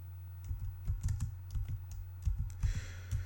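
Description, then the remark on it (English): Rapid, uneven keystrokes clatter on a computer keyboard as someone searches for something, fairly quiet, in short bursts over a steady low hum, with no voices. “Hold on, I'm trying to find it as you can hear me typing.”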